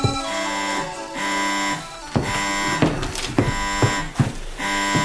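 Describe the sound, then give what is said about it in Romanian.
An intercom or door buzzer rings loudly for someone at the castle door, a steady electronic tone repeating in several bursts with short breaks and a few sharp clicks between them. No one speaks. “E cineva la ușa castelului. Unde-o fi videofonul ăla? Și care dintre aparate sună?”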